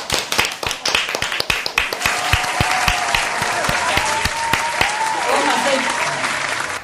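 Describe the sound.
An audience breaks into applause, starting with a few scattered claps that quickly swell into a steady, loud wash of clapping, with some faint voices and cheers mixed in.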